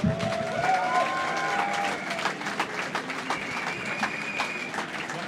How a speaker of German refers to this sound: Und wir freuen uns halt jetzt vorerst mal, hier die Jugendvertreterin der ganzen Parteien hier zu haben. Also dafür erstmal einen herzlichen Applaus. Die haben geackert wie die Blöden.